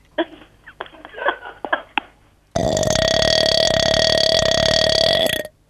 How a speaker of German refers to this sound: Kann man auch rülpsen. Und wie viel muss man da trinken? Na, richtig einen ordentlichen Schluck.